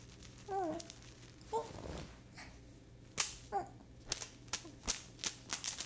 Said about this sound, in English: Slappity slap slap slap. That's fun. It doesn't really hurt, but it's fun. It makes a nice noise.